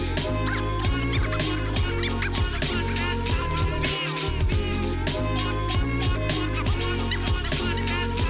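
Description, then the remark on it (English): Rapid DJ turntable scratches cut back and forth in quick rhythmic bursts over a steady, loud beat with a heavy bassline, pausing briefly midway before the scratching resumes. “Yo, fall back and let the cuts breathe for a second, man.”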